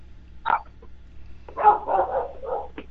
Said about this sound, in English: Sounds like you got company there. Hopefully it's not the feds. Hopefully your dogs aren't barking at the FBI. No, they just like to bark. That's why I'm outside, so I can hear the dogs bark.